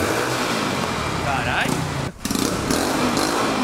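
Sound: motorcycle engine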